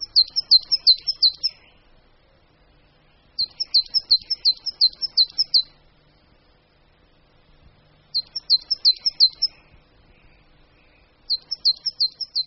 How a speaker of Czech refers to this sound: Cikora uhelníček je svým výskytem vázána prakticky výlučně na jehličnaté lesy, zejména smrčiny.